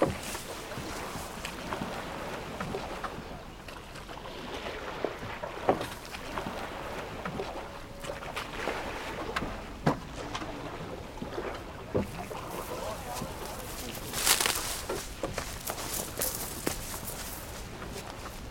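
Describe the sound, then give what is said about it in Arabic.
A boat glides across water, with a steady wash of water noise broken by occasional knocks and splashes, fairly quiet and even throughout, with no voices. “تعال وانظر، مركب كأنه عروس.”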